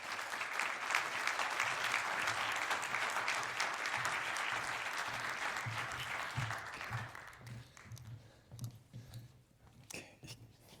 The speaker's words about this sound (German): Bitte begrüßt beide mit einem großartigen Applaus. Dankeschön.